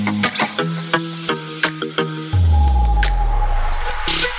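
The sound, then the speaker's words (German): Retro dial-up modem sounds: a run of rhythmic electronic beeping pulses gives way to a loud, steady wash of hissing static with sliding tones, like an old modem connecting. “Und dann dazu noch so ein paar coole Retro-Modem-Geräusche.”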